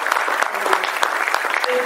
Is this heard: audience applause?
yes